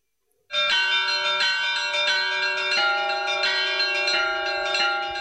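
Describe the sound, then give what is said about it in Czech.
Serbian Orthodox church bells in Banja Luka peal loudly and continuously at midnight between 6 and 7 January, marking Orthodox Christmas, fresh strikes landing every half second or so over a rich, sustained ringing hum. No voices are heard. “Zvona sa crkvenih hramova u ponoć simbolično su oglasila trenutak rođenja Sina Božijeg Isusa Hrista.”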